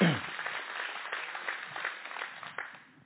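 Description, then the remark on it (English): An audience applauds: a dense, steady wash of many hands clapping for about three seconds, fairly soft, with a few sharper claps standing out before it tapers off. “If you're going to clap, do it well.”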